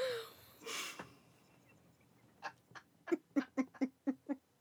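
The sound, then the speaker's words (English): An owl calls outdoors in a quick run of about eight short, rhythmic hoots that grow louder toward the end, after a few seconds of faint rustling and breathy noise. “That's an owl, I think. That's an owl.”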